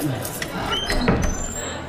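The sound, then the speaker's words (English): A door is opened, with a short creak and a couple of sharp clunks from the latch and handle over a steady background hum. “Do try the door.”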